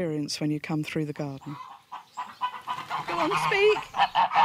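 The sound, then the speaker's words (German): Free-range geese honk loudly as they are shooed out of the way in a garden on an island, about five quick nasal calls in a row, followed by a busier stretch of softer squawks and chicken chatter in the background. “scheucht ihre glücklichen, freilebenden Hühner und Gänse aus dem Weg.”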